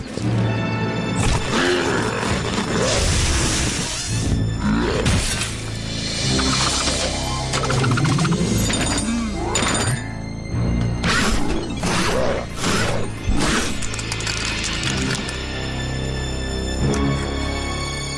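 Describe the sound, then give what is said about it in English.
A loud mechanical monster, a Reptar robot, roars over a continuous din of metallic clanking, grinding and crashing, busy throughout with no one speaking. “And how come he's making that clanky sound like Dad's car?”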